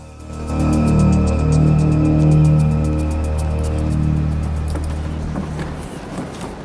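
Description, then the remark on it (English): A loud police car engine drones steadily, then gives way to harsh scraping and a run of crunching metal impacts as the driver loses control: the car flips over on a parked car, slams down onto its side, skids along the road and rolls over onto its roof. “It slams down onto its side and skids along the road before rolling over onto its roof.”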